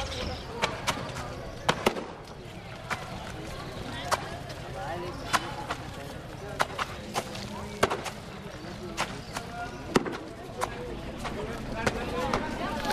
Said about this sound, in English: She's just standing there now, looking at the washerwoman. Maybe she likes getting sprayed a little from the wet clothes banging up against the stone slabs.